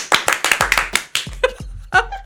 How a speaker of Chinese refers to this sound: 好，就特别颁给孝全先生这个奖项，我们拍手通过。